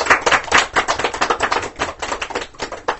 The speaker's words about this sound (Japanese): 拍手 を